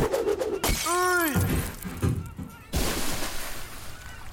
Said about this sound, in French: la bouteille de champagne qu'on casse sur la coque pour inaugurer le bateau. Je baptise maintenant ce bateau RMS Titanic.